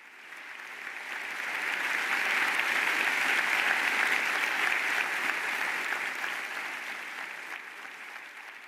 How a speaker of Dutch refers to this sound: Een applaus dus van de professoren en studenten van de La Sapienza Universiteit in Rome na deze mooie toespraak van de Heilige Vader.